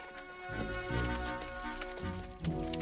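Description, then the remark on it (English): Horse hooves clop and shuffle at a moderate volume as riders dismount, a few uneven steps over about three seconds, with a steady tonal hum running underneath and no one talking. “With Lucky in the lead, they dismount.”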